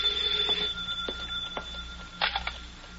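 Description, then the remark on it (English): A telephone bell in Harry's Diner rings steadily and fairly loud for the whole stretch, a bright metallic trill with a few clattering knocks over it and no one speaking. “Don't touch that phone. Hey, you. Me? Yeah, answer it.”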